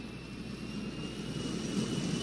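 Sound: airplane taking off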